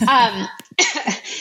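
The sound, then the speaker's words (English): A short burst of harsh coughing, a few rough hacks breaking up around a voiced throaty sound, loud and abrupt with brief gaps between the coughs. “Yes, I can, as I have a coughing fit.”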